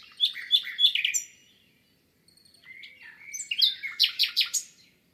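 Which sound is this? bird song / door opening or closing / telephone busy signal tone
bird song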